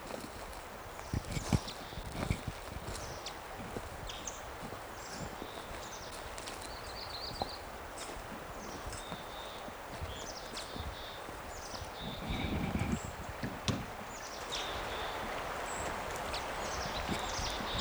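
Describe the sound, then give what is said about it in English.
A male bird gives its type 5 call: a long series of short, high-pitched chip notes, repeated irregularly over soft rustling and occasional low knocks and thumps. “Here's a type 5. It's a male.”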